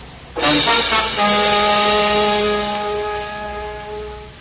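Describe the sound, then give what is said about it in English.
A car horn blares in one long, loud, steady honk that holds for about four seconds over a rumbling wash of heavy highway traffic noise, with no one speaking. “You want him to stop in all this traffic?”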